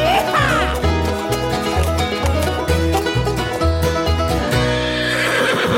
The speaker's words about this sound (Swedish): det där kom det gnägget. Jag tänkte, har vi inget gnägg i våran lilla jingel?